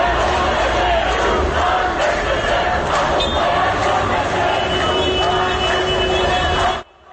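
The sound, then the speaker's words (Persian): A large crowd of protesters at a doctors' rally in front of the forensic medicine building in Tehran shouts slogans against the security forces in unison, a loud, dense wall of many voices sustained for several seconds before cutting off abruptly near the end. “در ویدیوهای منتشر شده از تجمع پزشکان صدای چندین تیر نیز به گوش می‌رسد و معترضان در واکنش به این اقدام علیه نیروهای امنیتی شعار می دهند.”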